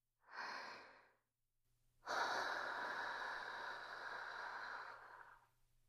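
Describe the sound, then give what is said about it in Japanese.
Two slow, breathy exhales: a short one, then a pause, then a long, steady, airy breath out lasting about three seconds. No talking. “このまま吐息に、頭の中すべてを洗脳してもらいなさい。”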